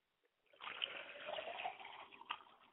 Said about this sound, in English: We pour libations to the east to bless you today, Father.